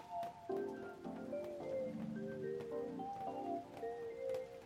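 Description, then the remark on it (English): Rain pings and patters on a roof in a steady scatter of light, irregular taps, over soft, sustained melodic tones, with no talking. “Is there anything more soothing than listening to rain pinging off the roof?”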